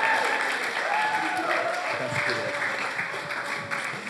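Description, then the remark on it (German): An audience claps steadily for several seconds to welcome the first panel guest, a dense, even patter of many hands with no pauses, with a faint cheer or voice or two riding along underneath. “An dieser Stelle einen herzlichen Applaus, ein herzliches Willkommen an unseren ersten Panel-Guest”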